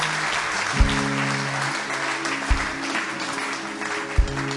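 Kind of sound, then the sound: crowd, audience applauding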